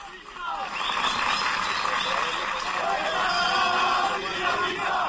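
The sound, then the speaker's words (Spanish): A large crowd of Rayo Vallecano football fans in Vallecas chants and shouts together just after a press conference ended, protesting a player joining the club: a loud, sustained roar, many voices blending into a rhythmic, continuous chorus. “Esta es la grada antirracista, en lo que gritaban justo cuando ha terminado la rueda de prensa, como te decía, los aficionados del Rayo, que hoy van a mostrar su rechazo a que este futbolista venga al Rayo.”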